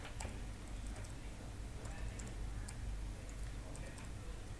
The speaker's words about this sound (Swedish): Nu skriver jag rätt kanske? Nej, inte enter då, smart.